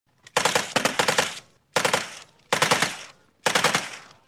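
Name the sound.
gunfire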